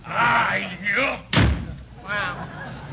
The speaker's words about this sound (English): Hey, closing the door kindly.